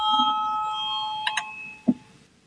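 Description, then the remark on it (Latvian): A parliament voting bell rings, calling a vote on the seventh proposal, from justice minister Jānis Bordāns, as a steady, high electronic tone for about two seconds, with a couple of brief brighter chimes near the end, over a low murmur of the chamber. “Lūdzu zvanu, balsosim par septīto tieslietu ministra Bordāna priekšlikumu.”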